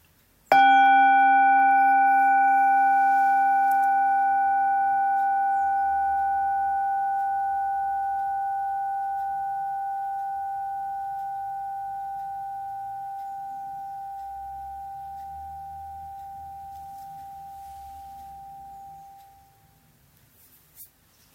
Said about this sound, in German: Wir hören wieder einen Klang der Glocke.